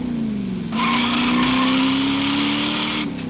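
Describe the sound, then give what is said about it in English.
The standard 383 cubic inch, 335 horsepower wedge V8 of a 1969 Plymouth Roadrunner roars and climbs in pitch as the car accelerates hard, with a loud, sustained squeal from its Red Streak wide tread tires that breaks out about a second in and then cuts off. “Power from a standard 383 cubic inch, 335 horsepower wedge V8 engine.”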